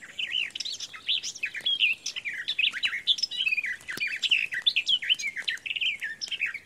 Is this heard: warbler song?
yes